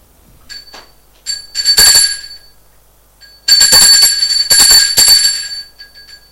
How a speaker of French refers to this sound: Arrivée au deuxième étage, elle va sonner à la porte de son appartement.